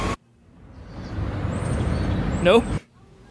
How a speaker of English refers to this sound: Okay, this is more city-like. There's some cars happening right here.